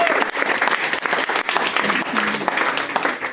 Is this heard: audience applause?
yes